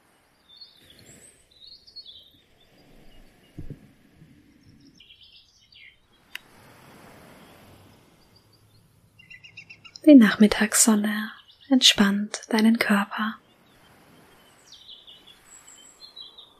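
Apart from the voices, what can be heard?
birds chirping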